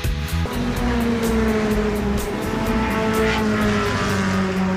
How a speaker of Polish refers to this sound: Dźwięk samochodowych silników, piękna słoneczna pogoda na torze Poznań i ostatni weekend wyścigowych samochodowych Mistrzostw Polski w tym sezonie.